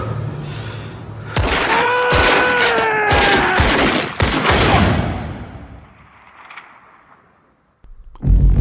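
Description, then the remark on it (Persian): A rapid burst of gunfire in a fatal shooting in South Armagh, Northern Ireland, 1975: several sharp shots cracking in quick succession, followed by a fading echo and near silence before another loud impact at the end. “شلیک مرگبار.”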